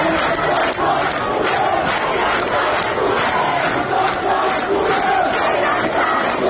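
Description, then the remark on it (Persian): A large crowd of protesters chants and shouts together in the streets of a city in Lorestan province, Iran, in loud, rhythmic bursts, voices rising in steady pulses that repeat roughly every half second with no break, the noise dense and continuous throughout. “همزمان با این مراسم در برخی از شهرهای استان لرستان هم معترضان به خیابان‌ها آمده بودند.”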